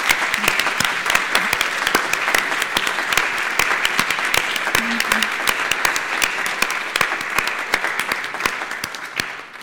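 A crowd in Cincinnati applauds its team steadily, dense overlapping claps forming a continuous, fairly loud wash of sound that holds at an even level throughout, with no voices standing out.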